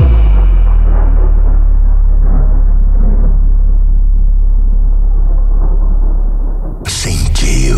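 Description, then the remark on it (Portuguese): A deep, powerful sub-bass rumble rolls on continuously and loudly, with a dense low roar above it, until a sudden bright, crackling burst breaks in near the end. “É uma tempestade controlada. Densidade, pressão, impacto.”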